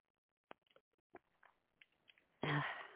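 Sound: sipping water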